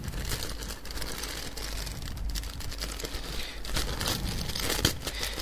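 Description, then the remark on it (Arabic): Continuous crinkling and rustling of a small plastic bag, taken from the right side of a cardboard box, being handled and pulled open, with irregular crackles and a sharper crunch near the end; no talking. “هطلع الكيس ده، هو حتى محطوط لي مكان محطوط فيه على اليمين، وهفتحه.”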